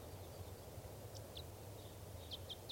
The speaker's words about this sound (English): Wild bird on the scene here. Type 5 bird in song.